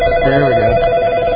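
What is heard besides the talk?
telephone ringing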